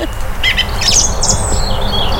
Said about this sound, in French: Il y a les hérons, il y a des sternes, des mouettes, des cormorants. Il y a pas mal d'oiseaux.